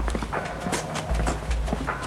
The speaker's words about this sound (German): Doch plötzlich sind nicht nur T-Rex eigene Schritte auf dem Asphalt zu hören. Es nähert sich jemand von hinten. Und dessen Schritte werden immer lauter.